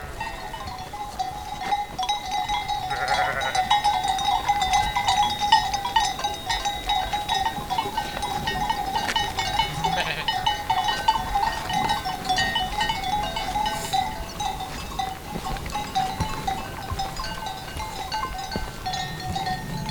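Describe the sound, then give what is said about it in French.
A flock of ewes beneath the Pointe du Viscos bleats steadily as it moves in single file, their calls overlapping with a constant jingle of many small bells, with no voices present. “des brebis bouge plutôt en file indienne.”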